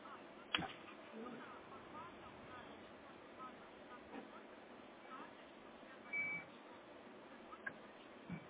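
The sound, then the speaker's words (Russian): A single short, high telephone call-waiting beep, signalling another incoming call during a phone conversation, cuts through a hissy, muffled phone-line background, with faint indistinct voice sounds scattered around it. “У меня там на проводе кто-то висит по телефону, кто-то мне звонит.”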